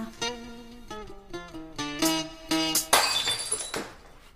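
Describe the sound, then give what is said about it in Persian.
A short run of tonal musical notes gives way to a loud crash of a drinking glass dropped from someone's hand and shattering, with bright scattering fragments that fade out over about a second. “یه لیوان از دستم افتاد.”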